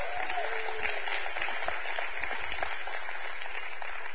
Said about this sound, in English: All right, they're already passing them out, so clap for tithes and offerings, please.